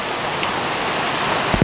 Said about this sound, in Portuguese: Agora é enfrentar o rio e a garganta de pedra. A água começa a despencar de todos os lados.